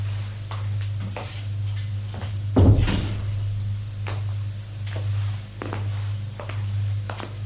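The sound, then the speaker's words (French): A door swings shut with a solid thud midway through as people walk in, surrounded by scattered soft footsteps and small knocks over a steady low hum, with no one speaking. “Une fois la porte fermée, l'homme dit « J'attends les pompiers.”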